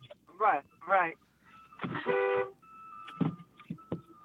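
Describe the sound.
A car horn gives one short, flat blare at close range, set among brief voice-like chirps, a thin electronic beep and a few sharp knocks.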